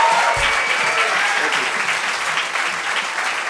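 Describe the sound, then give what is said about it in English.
Steady, dense audience applause for the players after an acoustic performance fills the whole stretch, a continuous wash of many hands clapping at an even, fairly loud level with no voices standing out. “Get a round of applause for these fine players making us look decent, huh?”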